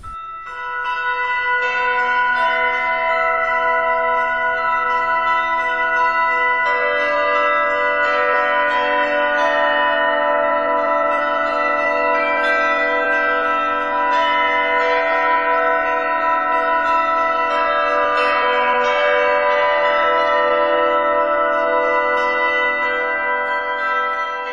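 Church bells ring continuously in a rich, overlapping peal, bright metallic tones layering and sustaining with steady loudness throughout, full with no voices.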